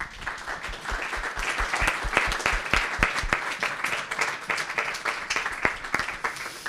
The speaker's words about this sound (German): So viel für den Moment. Ganz herzlichen Dank und einen kleinen Applaus.